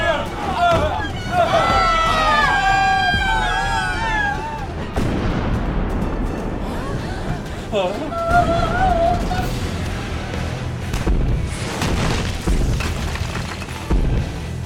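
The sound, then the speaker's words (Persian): Heavy booms and artillery fire rumble through a dense, chaotic battle scene, with rising whistling tones early on and voices shouting beneath the continuous loud blasts. “احمق بیشور، معلومه کجا را هدف میگیری؟ ولی قربان اینا اصلا دقیق شلیک نمی کنن.”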